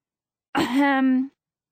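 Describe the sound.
A woman gives one deliberate throat clearing, a rough scrape that settles into a short voiced hum, fairly loud, heard alone with quiet before and after.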